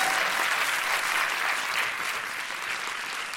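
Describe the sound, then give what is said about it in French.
An audience votes by applause on who would like to go tree-top climbing (acrobranche) with Adrien Méniel: a dense, loud wash of clapping for a few seconds that stays even throughout, with no voices standing out. “Qui voudrait aller faire de l'acrobranche avec Adrien Méniel par applaudissement ?”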